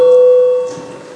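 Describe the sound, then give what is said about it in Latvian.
A parliament voting bell, rung to call a vote on deputy Valānis's proposal number 5, sounds one steady, mid-pitched electronic tone for just over half a second, then cuts off and fades into a faint hum. No one speaks. “Lūdzu zvanu, balsosim par 5. deputāta Valāņa iesniegto priekšlikumu.”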